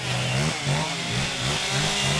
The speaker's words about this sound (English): Located just behind a car dealership, a cacophony of chainsaws hangs in the air.